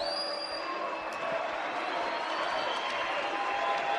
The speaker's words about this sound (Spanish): ¿Más aplausos a Ferraresi que al presidente? Pide un aplauso más fuerte para el presidente. Alberto Fernández.